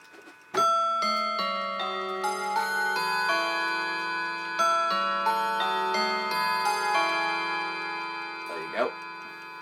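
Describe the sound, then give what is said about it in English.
A mantel clock, a Garrard / Elliott / Peerless version, plays the Whittington chime, a steady sequence of bright, struck bell tones whose long ringing notes overlap and sustain into a shimmering blend. “This is a beautiful version of the Whittington chime.”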